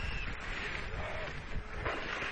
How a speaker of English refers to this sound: You can hear in that clip how windy it was in there.